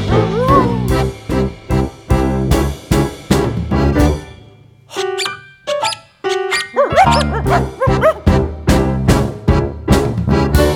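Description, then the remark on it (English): Several small dogs bark loudly in a fast, steady volley, with a brief stretch of high-pitched yips and whines midway before the sharp yapping resumes, without any talking. “Aren't they smart? They're dogs.”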